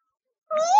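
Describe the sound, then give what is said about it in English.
A single meow from a cat in a tree begins after a short silence, a clear rising, tonal cry that grows louder toward the end, with no talking. “There is a cat in the tree. It's a cute cat.”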